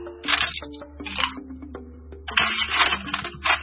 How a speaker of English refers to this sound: Somebody's rifling through their drawers. It's an ice machine. Is that what that sounds like? Really? That's not what it sounds like.